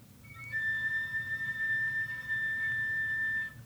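A single thin, pure whistle tone played on an instrument, held steadily at a high pitch for about three seconds, light but clear over a faint low background hum.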